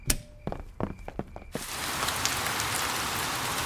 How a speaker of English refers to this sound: It has been raining all night, and now the garden is very wet.